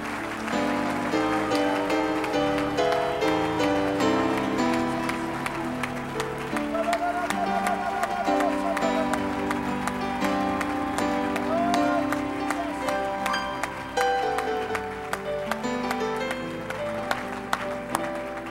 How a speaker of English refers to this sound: For about 10 seconds, let's give Jesus our very best hand clap of praise.